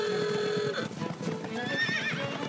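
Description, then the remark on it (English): A horse whinnies loudly, its shrill wavering neigh rising twice, while hooves clip-clop beneath it in an uneven patter. No one speaks. “Engine-powered machines have replaced the horse in a number of ways, but horses have been our companion and helper for thousands of years.”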